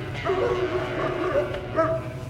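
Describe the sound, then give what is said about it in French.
Big Pyrenean mountain dogs (patous) at a sheep farm bark and yip a few times in irregular bursts, over a steady low outdoor rumble. “Et les patous, mais qui ont l'air gentils.”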